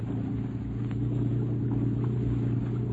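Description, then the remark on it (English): A motorboat engine roars loudly and steadily at high throttle, a deep, throbbing drone that holds constant from start to finish with no voices. “Open her up and get away, Scotty. Give her all she's got.”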